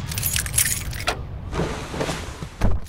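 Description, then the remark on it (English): Keys jingle as an old Corsica car starts up, its engine settling into a low, steady rumble with a few sharp clanks along the way. No one speaks. “Come on, old car. Yes! Fucking Corsica! Never fails!”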